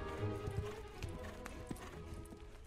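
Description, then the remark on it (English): A horse's hooves clop in a slow, uneven rhythm, a handful of sharp knocks over a steady low rumble, easing off as Marshal Forbes reins his horse to a stop in a moonlit yard. “dragged him into the next room, seconds before Marshal Forbes took rein in the moonlit yard.”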